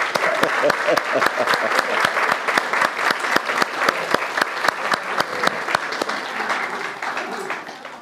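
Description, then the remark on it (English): An audience at an evening gathering at the Gospel House claps steadily for about eight seconds to thank the organizers: a dense patter of sharp hand claps with some louder individual slaps standing out, tapering off slightly at the end. “I think we can applaud them to please God the Father.”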